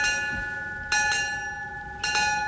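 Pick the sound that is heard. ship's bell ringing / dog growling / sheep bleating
ship's bell ringing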